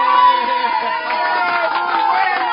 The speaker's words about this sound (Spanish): Yo les pregunto, señores mineros, ¿cómo explican este recinto lleno de personas manifestando disconformidad? ¿Dónde está el respaldo del pueblo?